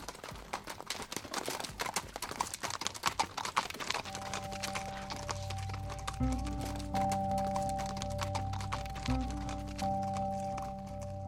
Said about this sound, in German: 30 halbwilde Pferde leben hier, betreut von nur 4 Männern. Der Hufschmied kommt alle 2 bis 3 Monate auf den Hof, denn die Pferde sind als Arbeitstiere fast jeden Tag im Einsatz.